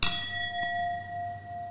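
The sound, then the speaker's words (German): Wine glasses clink together once in a toast during a wine tasting, a bright strike followed by a clear ringing tone that lingers and slowly fades, with no talking. “Moment, ich nehme mal das Glas. Prost.”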